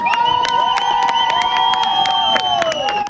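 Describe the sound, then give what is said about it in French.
A crowd at Brunelet harbor claps steadily while voices cheer and whoop as arriving sailors are welcomed in the evening, with high, sustained shouts rising over the dense applause; the sound is loud and continuous throughout, with no distinct speech. “Sous les applaudissements du public, les marins ont été accueillis dans une ambiance détendue.”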